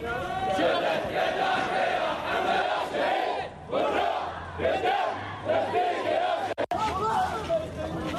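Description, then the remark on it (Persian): A large crowd of Sheikh Nimr's supporters in the streets of Bahrain shouts and chants in protest at his execution, in loud, rhythmic bursts of many overlapping voices, with a brief drop around the middle before the roaring resumes. “در بحرین حامیان شیخ النمر به جاده ها بیرون شده فریاد اعتراض را به خاطر اعدام او سر دادند.”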